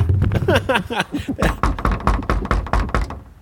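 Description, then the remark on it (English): A rapid series of about a dozen firm, fairly loud knocks on a door, following a brief stretch of muffled voice-like sound at the start. “So now I've knocked.”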